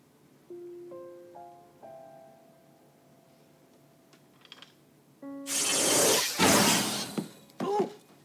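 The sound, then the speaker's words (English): Soft magical chime tones ring out, then a loud, bright rushing whoosh bursts in, shimmering briefly before ending with a quick sweeping zing, as a person is magically flashed in. “Open the door, not flash me in.”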